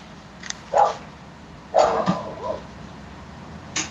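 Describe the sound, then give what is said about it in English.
A dog barks a few times at the back in short, muffled bursts, with irregular gaps between barks and a faint low background hum. “Uh-oh, the dog's barking at the back.”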